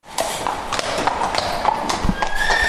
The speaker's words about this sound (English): Just some of the over 1,600 horses making their way into Dublin's RDS for this year's show.